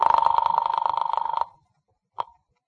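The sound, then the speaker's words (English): A telephone rings on the other end of a call dialed to an office, a rapid, trilling bell burst for about a second and a half, then a brief second ring begins before cutting off as it's answered. No talking. “Then I picked up the phone and dialed the office.”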